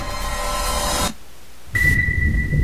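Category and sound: nature, thunderstorm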